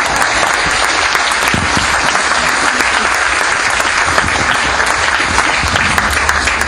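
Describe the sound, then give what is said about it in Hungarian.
Steady audience applause, a dense wash of many hands clapping at an even, loud level for several seconds without pause. “Vagy áment mondunk, vagy tapsolunk.”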